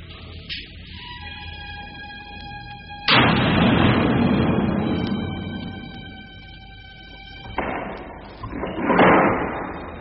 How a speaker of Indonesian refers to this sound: Pintu ruangan tahanan yang terbuat dari balok-balok kayu tahunan yang keras sudah terbuka lebar.